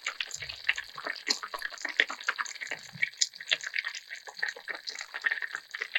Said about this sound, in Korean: 아 이게 또 마지막에 보글보글 끓는 소리까지. 한번 들어볼게요.